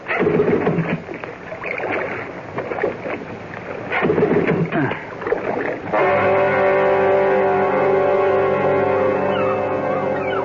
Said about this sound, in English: The motor's died. And the boat's drifting. You stay right there, Rob, while I get it started.